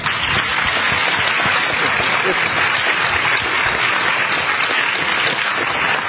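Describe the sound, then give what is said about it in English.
An audience applauds steadily for several seconds, a dense, sustained wash of clapping hands at an even, fairly loud level with no break and no voices standing out. “I'm going to do something that moderators often do, and that's going to ask you to hold your applause till the end.”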